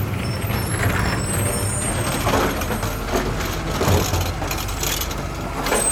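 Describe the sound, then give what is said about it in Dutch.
A heavy garbage truck stopped in front of a house rumbles steadily as a waste bin is emptied, with mechanical clanks and a hiss of air brakes, then the engine drones on as it drives off. “Het afval wordt geleegd en de wagen rijdt weer door.”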